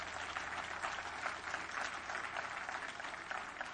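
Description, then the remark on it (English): A crowd applauds steadily, giving a clap to the Lord. Many hands clap together in a dense, continuous wash of sound that holds at an even level throughout, with no one speaking over it. “Everybody give the Lord more good clap off.”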